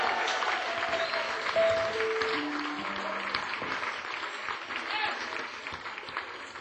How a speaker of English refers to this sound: Come on. Give her a hand of applause.